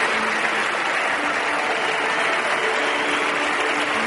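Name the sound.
festival audience applauding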